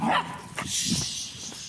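dogs barking

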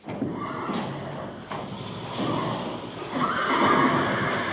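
horse neighing

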